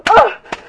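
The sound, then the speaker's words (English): Two quick, sharp slaps of a hand on the bare skin of a man's left breast and nipples land close together under a brief vocal moan, followed by a softer single slap a moment later. “I'm gonna slap sir's breast, his nipples.”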